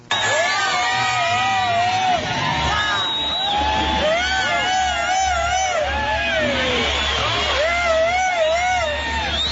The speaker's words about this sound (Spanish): La reacción de la gente fue de abucheos y de silbatinas. Aquí está.